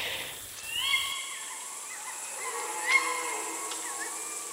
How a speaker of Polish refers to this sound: Puszczyki, dlatego że to ich gody powoli zaczynają się i tutaj jakieś szamotania, przepychanki, wysokie piski to samice, niższe, dłuższe pochukiwania to oczywiście samce. Piękna filmowa scena.